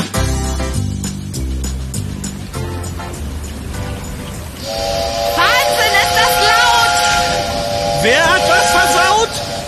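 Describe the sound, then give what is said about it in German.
A locomotive signal horn blasts a loud, sustained multi-tone chord for about five seconds, rising over the rumble and rhythmic clatter of a moving train, with hissing underneath. “Das Signalhorn der Lokomotive war so laut.”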